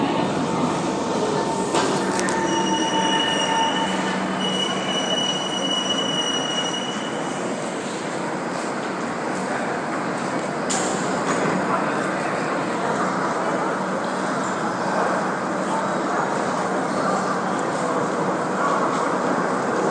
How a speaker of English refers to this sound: We just had a terminating train here, and now there is another train that is heading out in the general direction of Changi Airport, and then immediately behind that there's another train that terminates here.